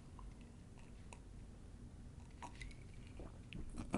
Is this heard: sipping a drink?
yes